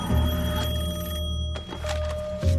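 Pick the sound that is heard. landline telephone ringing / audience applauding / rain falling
landline telephone ringing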